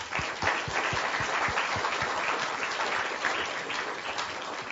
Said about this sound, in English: On behalf of the audience, I'd like to thank you for a very interesting and fascinating talk. So if we could give our speaker a round of applause. Thank you.